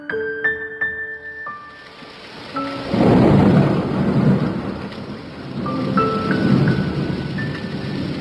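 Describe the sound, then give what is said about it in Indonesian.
A thunderstorm with steady rain, deep rumbles of thunder rolling in twice and swelling loudly over the hiss of rainfall, after a few brief sustained tones at the start. “Apa yang diharapkan penduduk ibu kota dikala hujan?”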